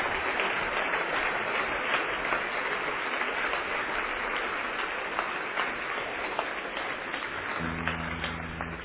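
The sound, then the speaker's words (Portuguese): An audience applauds the Lord with raised hands, clapping steadily, a dense wash of many hands applauding continuously without letup, with a low sustained tone rising beneath it toward the end. “Para a glória de Deus, aplauda o Senhor.”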